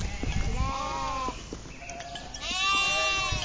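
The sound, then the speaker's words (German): Several sheep bleat in overlapping, wavering calls as a flock is driven in traditional transhumance, one loud near the end, over a steady low rumble of the moving flock with no voices. “Und was wir wollen, ist eben, dass diese Tiere ihren Lebensraum behalten, dass aber gleichzeitig auch diese Tradition der Transhumanz, also des Treibens von Schafen, auch erhalten bleibt und seinen Platz hat in dieser Landschaft.”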